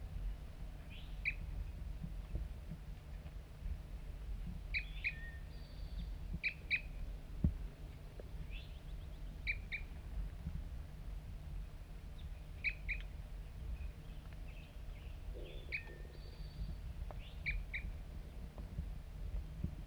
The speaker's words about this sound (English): Here it comes. One lone bird. And it's real nearby right now.